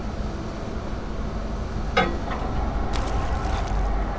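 A steady low rumble of an idling boat engine on open water, continuous and fairly close, with a brief knock and splashy clatter partway through.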